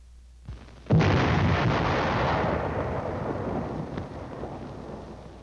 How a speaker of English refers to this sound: Next, the burst of the shell on impact.